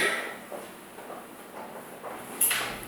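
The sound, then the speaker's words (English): A brief, high-pitched chair squeak near the end, over a steady background hiss with a few soft shuffling creaks earlier on. No one speaks. “I think all you're going to hear on this recording is my chair squeaking, but there.”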